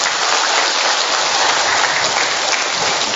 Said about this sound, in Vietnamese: Một tràng pháo tay nữa thưa anh chị em.